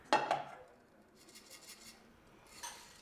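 Dishes clatter in the shared kitchen of a student dormitory, where residents cook and wash up: two sharp, bright clinks at the start, then softer scraping and rattling of crockery and cutlery, with another clink near the end.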